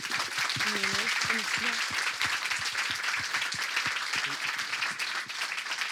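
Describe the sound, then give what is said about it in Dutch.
Sustained applause from an audience at an evening event, a warm applause for a woman, with dense, steady clapping, while a few voices call out faintly underneath near the beginning. “Dames en heren, ik zou graag nog een warm applaus willen vragen voor haar.”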